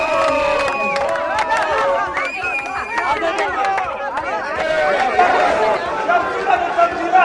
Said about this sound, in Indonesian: Para pengunjuk rasa juga berkumpul di pangkalan militer Beit Lid, memegang spanduk dan berteriak menentang penyelidikan tersebut.